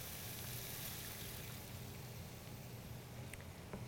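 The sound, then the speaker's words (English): Water is poured into a hot cooking pan of cooking onion and garlic, making a steady, soft rushing hiss that continues evenly for several seconds with no talking, fairly quiet. “So I'll give this a good stir, and then just to help everything cook, I'm going to add some water.”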